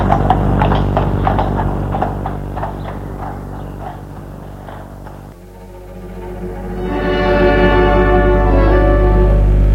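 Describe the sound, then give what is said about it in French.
A steady, even clip-clop of horse hooves trots along over a low musical drone for several seconds, then fades as swelling music takes over. The horse, taken from a stable, carries a body on its back as riders leave an inn. “Ils sont allés chercher le cheval à l'écurie, ont mis le corps dessus et sont partis.”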